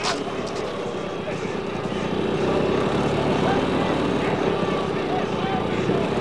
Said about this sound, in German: Da kommt ein Polizist mit einem Motorrad.